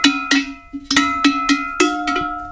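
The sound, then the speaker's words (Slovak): Sheet-metal cowbells made for cows clank in a loose, uneven rhythm, about eight sharp strikes with bright metallic overtones and a steady low hum ringing on between hits. No voices. “Toto sú kravské zvonce, plechovie, čisté na kravy.”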